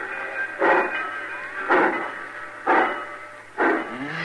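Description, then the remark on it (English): A train pulls out of the station right on time, its engine giving four heavy, evenly spaced chuffs about a second apart over a steady mechanical hum and hiss, fairly loud. “Cussing train pulling out right on time at once.”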